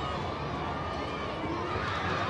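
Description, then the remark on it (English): Steady roar of a large stadium crowd at a baseball game, a dense, continuous wash of cheering and murmuring voices at constant loudness with no single voice standing out. “As you can hear, a great crowd on hand today.”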